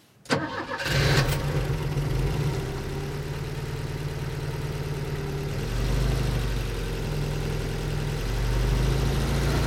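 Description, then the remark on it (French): An old Volvo estate car's engine cranks and catches as the key is turned in the ignition, then settles into a steady, rumbling idle that holds for several seconds with a slight swell in loudness near the end. “André a une vieille Volvo Break, celle qu'on voit dans tous les films d'auteurs français.”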